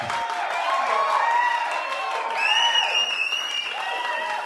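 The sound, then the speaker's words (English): Steady, dense applause sound effect mixed in, filling the whole stretch at an even loudness, with crowd cheering and a few rising whistle-like tones layered over the clapping. “Yeah, mix in applause and leave this conversation in.”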